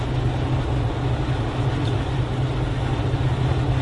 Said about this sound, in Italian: Sì, questa è una macchina che non sta bene nel sud del mondo. Anche il motore è più performante, vedi? Sì, sì, senti com'è.